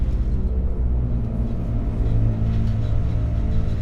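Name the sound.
bus engine rumbling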